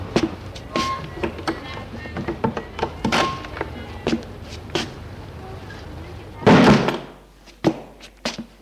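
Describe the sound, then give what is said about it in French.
A woman opens the door to her building's entrance hallway to let a man in, with a string of small clicks and knocks from the handle and latch, then a heavier wooden thud and a couple of lighter taps. “Elle ouvre la porte de son allée pour le faire rentrer.”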